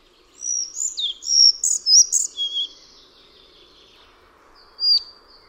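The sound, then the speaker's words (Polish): A chochołówka białoszyja bird gives a quick run of short, high, modulated whistles, then falls silent before one more brief whistle near the end; no one speaks. “Charakterystycznym dla niej dźwiękiem są pojedyncze, krótkie, modulowane gwizdy, podobne nieco do głosu kontaktowego świstunki.”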